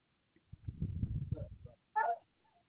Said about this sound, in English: He's barking because he can't get in this door because he's too lazy to walk around to the dog door.